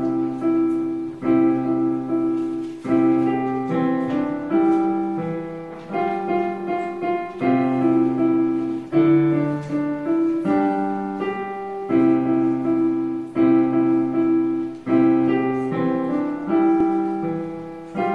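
A piano plays Jingle Bells, with full chords struck in a steady, even rhythm, each note ringing out and decaying. The playing stays at a moderate, consistent loudness throughout, with no voices.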